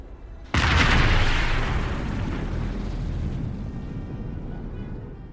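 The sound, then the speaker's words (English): A single sudden, heavy blast of rocket fire on eastern Al-Ghouta, near the Syrian capital Damascus, erupts after a brief quiet, then a broad, roaring rumble lingers and slowly fades over several seconds without any voices. “Those are the sounds of rockets being fired on eastern Al-Ghouta, near the Syrian capital, Damascus.”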